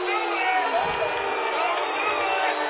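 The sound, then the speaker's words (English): A stadium crowd at a Vikings football game cheers in a steady, unbroken roar, a dense wash of many voices with scattered whoops rising out of it, holding loud and even throughout, heard after the Vikings band has been told to go silent. “And now you hear the crowd in the background as the Viking band has been told to silence.”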